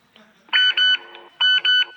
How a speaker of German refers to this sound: Was war das? Eine SMS von Sam.